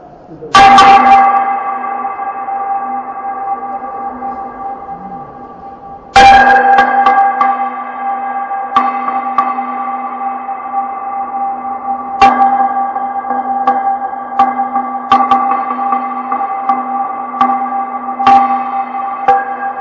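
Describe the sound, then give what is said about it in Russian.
Church bells ring loudly, heard from within the bell tower, struck at irregular intervals with several strokes overlapping, their deep tones humming and sustaining continuously between strikes. “А мы сейчас на колокольне.”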